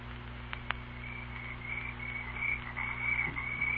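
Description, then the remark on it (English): Night swamp ambience in the Chickahominy Swamp on a dark night with the moon behind clouds: a steady, high-pitched chorus of croaking frogs trills continuously over a low, constant hum, with a couple of faint clicks early on. No one speaks. “We've got to get into the swamp before daybreak.”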